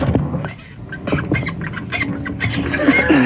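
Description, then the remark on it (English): A squeaky chair being shifted, giving a run of irregular, rasping high-pitched squeaks and creaks, almost like quacking, continuing for several seconds with no talking over it. “Could I'm trying that chair to do it quietly. Be any squeakier?”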